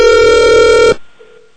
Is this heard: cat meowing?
no